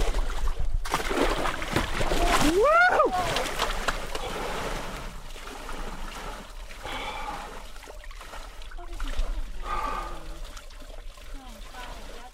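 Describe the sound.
Loud splashing and sloshing of water as a man climbs into a tub of icy water outside a sauna on a farm in Lafarge during a weekly sauna ritual, with a sharp whooping cry over the splashes, followed by quieter voices talking and a little more dripping water.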